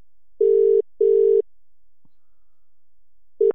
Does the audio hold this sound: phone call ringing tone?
yes